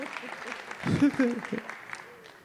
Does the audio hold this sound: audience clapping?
yes